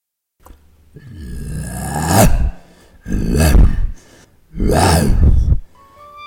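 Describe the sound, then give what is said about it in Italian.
A man's voice, an actor playing the Lion in a stage scene with Thisbe, imitates a lion roaring, three loud, growling bursts in a row, the first building slowly and the next two short and forceful, with no talking in between. “Ben ruggito, leone, molto bravo.”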